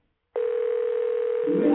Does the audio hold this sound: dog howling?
no